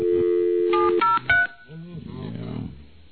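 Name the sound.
telephone keypad dialing tones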